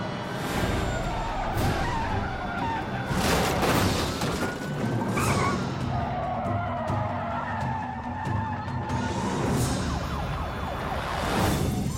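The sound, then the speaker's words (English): Tires screech in a hard braking skid amid loud engine and road noise, with a wailing siren sweeping in the background and a few heavy crunching bursts as a car brakes hard and the pursuing police cruiser slams into its rear, leaving the cruiser disabled. “Stands on his brakes, triggering a violent rear-end collision that leaves the cruiser disabled.”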